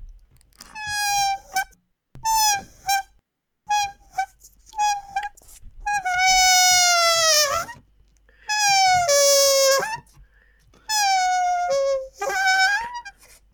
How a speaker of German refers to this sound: Lass den Hund doch mal raus. Das war das Geräusch.